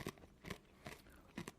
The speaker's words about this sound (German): Oh, es knuspert schön bei dir.